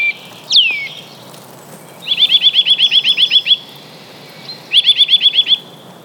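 A commercial recording of a Eurasian nuthatch call is played back: one sharp down-slurred whistle, then two fast trills of clear, high, evenly repeated piping notes, the first longer than the second, over a soft hiss.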